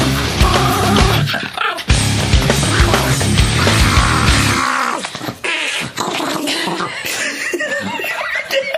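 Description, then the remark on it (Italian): A small family dog whimpers and growls in a sing-song way over a band's loud, busy music. Its yelping, throaty noises carry on steadily through the whole stretch with no one speaking. “utilizzano invece un vero amico a quattro zampe, il loro piccolo cagnolino di famiglia, giusto occasionalmente per tirare fuori liete melodie tipo questa e buttarla in cacciara.”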